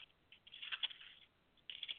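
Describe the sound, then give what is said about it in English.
Thin Bible pages being turned to Romans 10, soft crisp rustling in two short bursts with a brief pause between, quiet, with no voices. “You may hear pages turning because that's me.”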